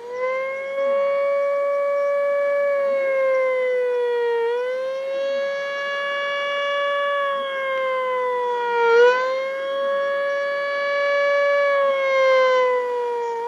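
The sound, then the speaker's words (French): A loud, sustained siren wails steadily outside a bus in Seoul in the early afternoon, its tone dipping and rising slightly a couple of times, with no voices over it. “Et puis, à un moment, on entend une sirène dehors. Donc, ça donnait à peu près ça.”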